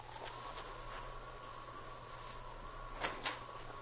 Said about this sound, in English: It wasn't until he opened the door of the office and looked inside